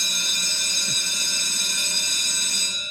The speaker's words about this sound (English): Hey-o, you know what that means, that bell. Although it's a little early today, I was calling for it because, Tim, you couldn't be more on cue. Today's bell rings, and every day the bell rings to let us know that it's today's democracy in action.